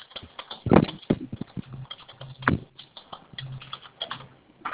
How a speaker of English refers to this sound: It sounds like someone is typing with their phone, transmitting that noise down here. Would you please, if you're not participating, put your phone on mute?